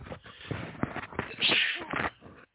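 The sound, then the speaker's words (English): A person sneezes, a sharp explosive burst followed by a second breathy blast, with a few short sniffs and breaths around it. “Hold on, I got to sneeze.”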